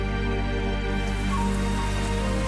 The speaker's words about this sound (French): Putain, c'est la tempête là!